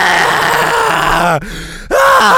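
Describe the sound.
A voice imitates a screaming sun with a face, rising over a planet, with a loud, strained, wavering howl, broken by a brief gasp before the wailing cry resumes at full strength.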